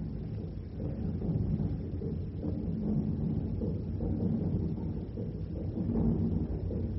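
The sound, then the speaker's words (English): A ship's diesel engines rumble steadily as the ship gets underway, steering north, a deep, continuous low drone that holds at an even loudness throughout, with no voices over it. “we're underway at last. Can't you hear the diesels?”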